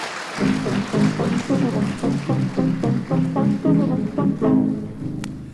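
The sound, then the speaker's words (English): An audience at an evening event claps in a steady, rhythmic beat of about three claps a second, with sustained cheering voices underneath, applauding two Indigenous Studies scholars from the University of Saskatchewan; fairly loud throughout and easing off at the end. “Can I have a big round of applause for them and for yourselves for coming out tonight?”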